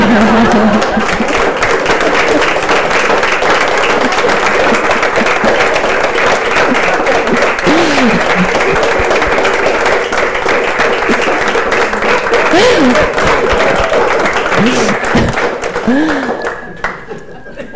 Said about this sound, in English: Actually, it's important to clap so that we come back to real time.